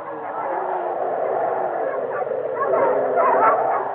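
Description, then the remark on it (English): A pack of sled dogs, used to pull a sledge onward from Irkutsk, barks and yelps in a dense, overlapping chorus, steady for the whole stretch, growing slightly louder toward the end. “From here, we must go by sledge with dogs for reindeer.”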